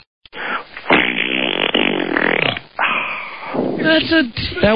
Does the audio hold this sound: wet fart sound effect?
yes